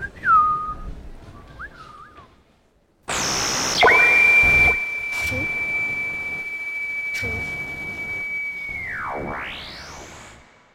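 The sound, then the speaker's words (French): A few short whistled phrases with sliding pitches, then a loud burst of hiss under a long, steady high whistle that ends in swooping downward and upward glides. No one speaks. “Mais du coup, la prochaine fois, on siffle au lieu de parler.”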